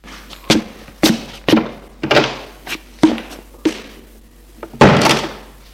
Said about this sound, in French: Lorsqu'il prend sa douche, il entend Maurice qui essaye d'ouvrir la porte de la salle d'eau. Ah! Tu as fermé!